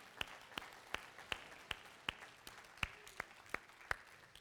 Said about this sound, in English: And speaking of sons, happy Father's Day to all the dads out there. I hope you have, yes, you can clap for the dads.